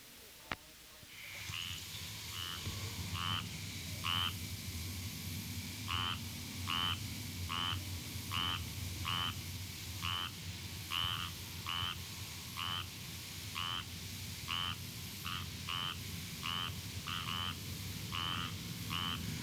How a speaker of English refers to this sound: The squirrel tree frog, Hyla squirrella, is another species which is very common statewide and which is commonly found feeding around lighted windows. The call of a single frog is like a quack.